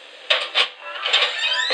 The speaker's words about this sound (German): Klopf, klopf.